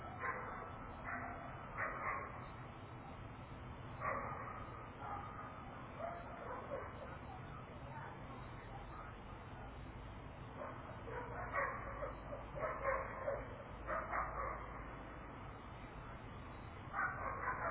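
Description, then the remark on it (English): Several dogs bark repeatedly, a steady irregular chorus of yaps and woofs continuing throughout, with occasional louder bursts over a low background hum. “All experience the barking dogs.”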